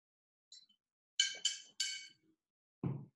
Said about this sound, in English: Oh, hang on, I need to drink some water.